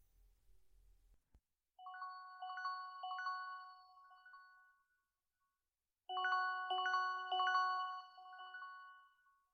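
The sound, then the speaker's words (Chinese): A melodic phone ringtone for an incoming call from the boss plays in two bright, electronic phrases separated by a short pause, fairly loud, with a brief low rumble before it begins and no talking. “喂，您好，领导，找我有什么事吗？这个时间打来电话。”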